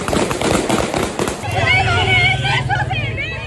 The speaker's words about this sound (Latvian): Vēl aizvadītās nedēļas nogalē talibi Kabulā raidīja gaisā brīdinājumu šāvienus, lai izklīdinātu sieviešu protesta demonstrāciju.